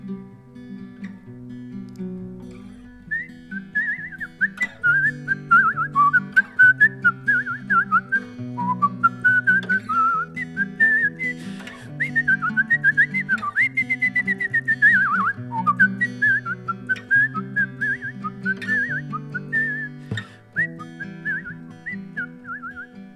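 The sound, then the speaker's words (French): A person whistles an imitation of a blackbird's song, a lilting, warbling melody that runs steadily over a rhythmic instrumental accompaniment, clear throughout. “Et surtout, il sifflait tous les matins.”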